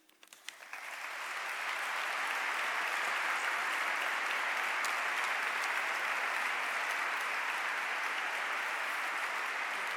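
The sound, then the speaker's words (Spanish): A large crowd breaks into sustained applause for Cardinal Ricardo Blázquez Pérez at the conclusion of his 2015 Holy Week proclamation, building quickly from scattered claps into a dense, steady roar of clapping that continues without pause, with no one speaking over it. “Larga, larga ovación la que recibe el cardenal don Ricardo Blázquez Pérez a la conclusión de este pregón de la Semana Santa de este 2015.”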